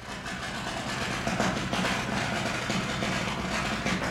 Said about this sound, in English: you can hear the grinding of steel on a boat nearby as painters prep for painting.